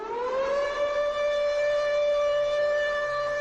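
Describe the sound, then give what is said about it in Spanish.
A loud, steady alarm siren sounded at 6:41 by residents at their weekly Tuesday protest in front of the platform rises in pitch at the start and then holds a sustained wailing tone with strong harmonics, continuous throughout with no voices. “Por eso, cada martes se están manifestando ante la plataforma y, bueno, pues a las 6:41 hacen sonar las alarmas.”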